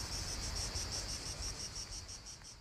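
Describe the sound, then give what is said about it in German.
Cicadas chirp by the sea at Gianella, a small village in the province of Grosseto, Tuscany, in a steady, high-pitched pulsing chorus, the rhythmic buzz repeating about five times a second over a constant low rumble, with no voices. “Das Rauschen des Meeres wird durch das Zirpen der Zikaden und das Rascheln der Baumblätter begleitet.”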